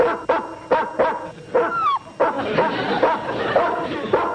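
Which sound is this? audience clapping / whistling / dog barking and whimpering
dog barking and whimpering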